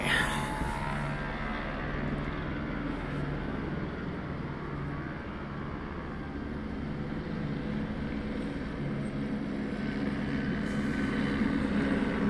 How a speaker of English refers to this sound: Yep. He's still talking about the helicopter. It's loud. It's a loud helicopter. We did this on purpose.